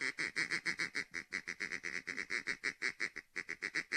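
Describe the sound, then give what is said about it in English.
A Haydell's gray duck call blown in a rapid, steady run of nasal quacks, about five per second, loud with no pauses and no voices. “Yeah, that's my Haydell's gray duck call.”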